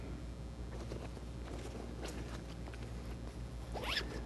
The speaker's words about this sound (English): Oops, it's not even that. It's another zipper here. This is one of these fancy things that you don't know where you're going.